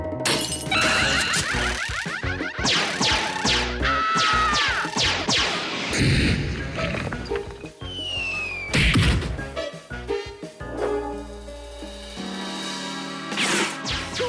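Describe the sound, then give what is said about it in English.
Glass breaking and smashing in a loud, chaotic run of crashes, thwacks and shattering impacts with bright ringing shards, continuing for several seconds with no one speaking. “Now, if he were to hear the sound of glass breaking or screaming, for example, he'd elevate his response.”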